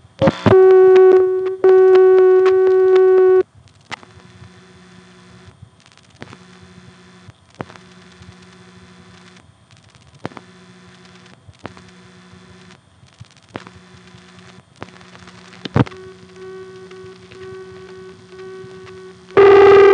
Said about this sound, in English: Now, this next call is also to a ringing number within the office. It's dialed a little more slowly, so you can hear some of the register noise in between the digits.